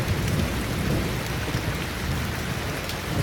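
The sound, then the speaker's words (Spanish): Steady rain drums on a roof, a dense, even patter with a low rumbling undertone, continuous throughout with no voices. “A ver qué tal este, el sonido de la lluvia que golpea el techo mientras uno está acostadito en su cama.”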